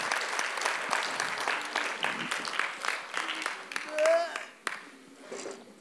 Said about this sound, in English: Big round of applause for our willing volunteers.